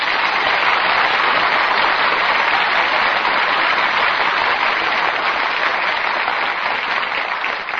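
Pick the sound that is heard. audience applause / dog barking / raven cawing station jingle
audience applause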